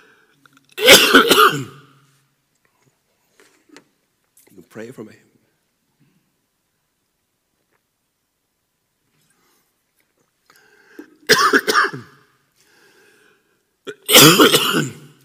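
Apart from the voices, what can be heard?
coughing and throat clearing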